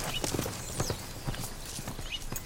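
horse hooves clip-clopping

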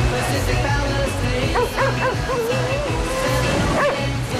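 sheepdog barking

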